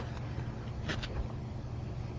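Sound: garbage truck passing outside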